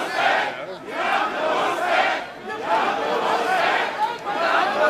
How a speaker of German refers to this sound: Von vor der Halle waren jedoch Buhrufe und Pfiffe zu hören.